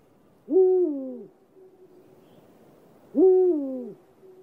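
Two deep, resonant hoots from a Eurasian eagle-owl, each slightly drawn out and falling in pitch, spaced a few seconds apart and sounding clear against quiet surroundings.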